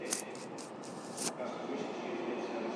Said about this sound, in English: Right, here comes the train.